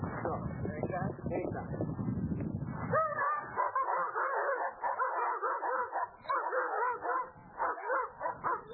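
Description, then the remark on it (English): Several trained dogs bark and yip excitedly, opening with a deep rumbling growl-like stretch, then a rapid, overlapping series of sharp barks and whines that continues without pause. “These dogs are not mean dogs, they're trained dogs.”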